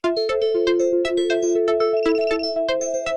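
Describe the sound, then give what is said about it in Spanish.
A mobile phone alarm rings at 6 in the morning with a bright electronic melody of quick repeating notes, loud, playing steadily for the whole moment with no voices. “Bueno, 6 de la mañana, me suena el celular.”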